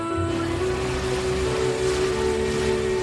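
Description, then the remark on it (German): A motorboat engine drones steadily as the boat glides across a large lake in the Canadian wilderness, its low hum running unbroken for a few seconds beneath a broad wash of rushing water and wind. “In einem Motorboot gleitet sie über einen großen See.”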